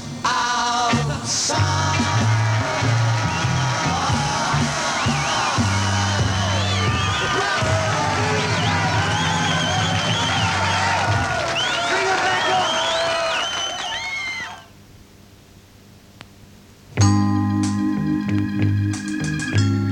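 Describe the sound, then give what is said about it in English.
A large theatre crowd cheers, whoops and applauds loudly over a steady musical backing for about fourteen seconds, then the noise drops away briefly before music resumes. “When people say we're finished, we'll turn around and say to them, we've got ourselves a season at the London Palladium, playing to the crowds.”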